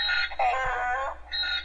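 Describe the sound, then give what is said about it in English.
A short electronic phone ringtone, one of a numbered series of rings being played, plays alone: bright, buzzy warbling tones in two bursts with a brief gap between them, moderately loud. “As you can tell, it's a wide variety of rings here.”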